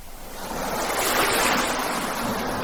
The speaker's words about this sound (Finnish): Galilean meri tyyntyy vähitellen. Veden keinunta lakkaa aaltojen rauhoittuessa.